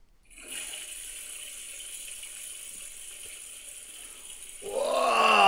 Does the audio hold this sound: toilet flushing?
yes